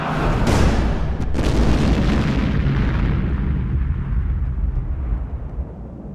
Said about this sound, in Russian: И в это время раздался оглушительный взрыв.